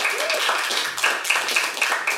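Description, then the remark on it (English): A steady wash of audience applause welcoming a special guest, many hands clapping at once with a loose pulsing rhythm and a faint whistle early on. No voices rise above the clapping. “Everyone, please give a warm round of applause for our special guest”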